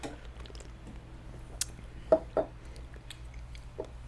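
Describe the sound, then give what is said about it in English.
A sour beer container being opened: a quiet click, then a short sharp crack followed by two soft, muffled pops, with faint handling noise and no talking. “All right, so should we open it and figure out how sour it is?”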